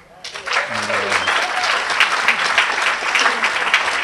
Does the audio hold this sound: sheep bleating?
no